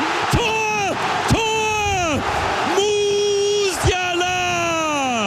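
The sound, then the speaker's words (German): German football fans in the Dortmund stadium celebrate goals by Kai Havertz and Jamal Musiala against Denmark at the European Championship, with loud sustained voices swelling and falling in about four long waves over a steady wash of crowd roar. “Wobei der zweimalige Torjubel der deutschen Fans war nicht das Einzige”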